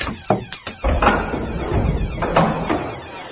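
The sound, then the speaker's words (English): A padlocked door at the back of a sound booth being forced open, its lock being cut: a quick series of sharp metallic knocks and clanks, then a loud, sustained grinding rattle with another hard bang near the end. No voices. “The door at the back of the sound booth. It's padlocked.”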